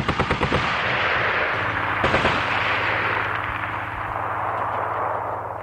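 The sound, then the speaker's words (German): Polish soldiers fire nonstop with cannons and guns: rapid bursts of gunfire crack out at the start, followed by a heavy cannon-like boom and a long rumbling, roaring aftermath of continuous battle noise, loud and with no voices. “Die polnischen Soldaten haben beschossen dem Stutt ohne Aufhören. Tugenacht mit seinen Kanonen in seinen Bixen.”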